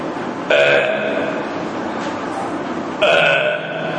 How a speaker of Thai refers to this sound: ريح يخرج من الفم مع صوت عند الشبع เป็นลมที่มันออกจากปากพร้อมกับเสียงขณะมีความอิ่ม